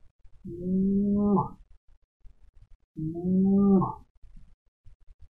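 Two steady closed-mouth hums on an M sound, held inside as in Nada Brahma meditation practice, each lasting about a second with a short pause between. They are moderately loud, low and droning, with no talking.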